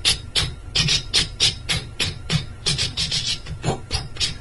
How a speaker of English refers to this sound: He said, I'm washing my clothes.